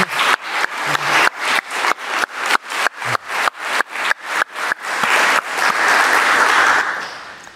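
A group claps in a steady rhythm at first, the beats gradually blurring into a dense, sustained wash of applause that swells and then fades out near the end.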